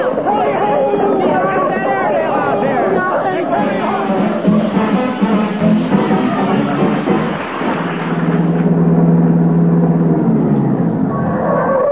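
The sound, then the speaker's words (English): A car rumbles along amid busy commotion and voices, then slows with a sustained droning squeal from brakes that need fixing as it brakes to a stop near the end. “Gotta get them brakes fixed.”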